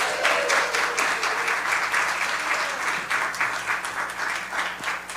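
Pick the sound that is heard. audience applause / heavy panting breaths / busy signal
audience applause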